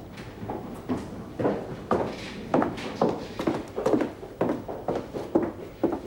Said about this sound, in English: Bernadette takes a pail of cleaning material and pillow slips and walks up the stairs